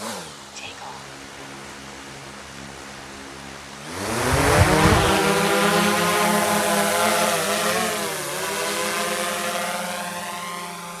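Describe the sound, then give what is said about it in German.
A low steady motor hum idles, then a GPS-guided drone's rotors spin up abruptly into a loud, rising whine with layered harmonic tones that waver and shift in pitch as it lifts off to survey black-headed gulls nesting on an island. “Der Aufbau dauert nur wenige Minuten. Dann ist die Drohne startklar.”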